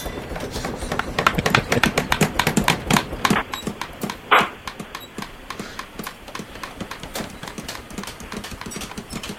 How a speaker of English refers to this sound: Oh, shit, roofing noises. Crap. Do I have roofing noises? I think I lost those. I think we're waking him up from his mid-morning nap. Nice, I still have the roofing noises.